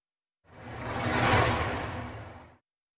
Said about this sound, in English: From within its sack, the Fitzsimmons project makes a gurgling, slurping sound, like water being drained from a sink.